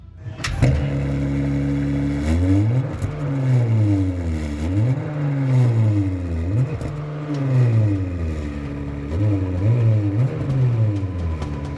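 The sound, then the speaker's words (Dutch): A modern car engine revs repeatedly while idling in neutral, its pitch climbing and falling in a steady series of swells, loud with no one speaking. “die moderne auto's zijn niet meer zo gezellig. Die praten niet meer zo gezellig in de neutrale stand.”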